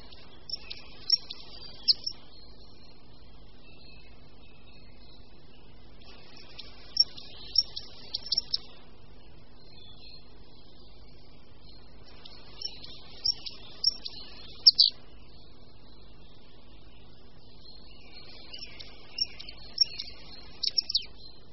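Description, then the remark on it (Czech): A goldcrest, the smallest local bird, sings thin, very high-pitched trilling phrases, repeated about four times with short pauses between, fairly faint against a quiet background with no talking. “Posloucháme zpěv našeho nejmenšího ptáčka, králíčka obecného.”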